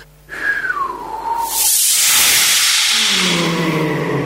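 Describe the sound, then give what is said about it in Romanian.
A thin descending whistle gives way to the loud, sustained rush of the south wind blowing, a steady hissing whoosh with a low moaning tone sliding beneath it near the end. No one speaks. “Ia să suflu în cel de-al doilea fir de păr pe care mi l-a dat.”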